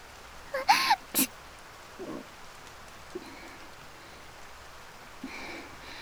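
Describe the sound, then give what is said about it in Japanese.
Soft, steady rain hisses throughout, fairly quiet and even, with a couple of sharper splashes or taps near the start and faint patters later on. No one speaks. “雨の中で告白なんて、なんかロマンチックだね。”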